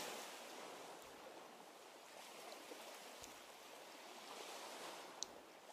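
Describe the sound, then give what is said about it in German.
Steady, rushing wash of ocean surf on a beach, a continuous broad hiss of water with only gentle swells in level and a few faint clicks, heard alone without voices. “Jede Welle spült eure Fußabdrücke weg und mit jedem Schritt entsteht ein neuer Fußabdruck.”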